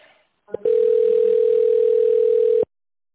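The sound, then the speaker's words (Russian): A single steady telephone signal tone on the automated phone line of the company Novatek Electro, mid-pitched and unbroken, holds for about two seconds after a brief click, loud and alone with no voices over it; after it callers dial an extension or wait for an operator. “После сигнала наберите добавочный номер абонента или дождитесь ответа оператора.”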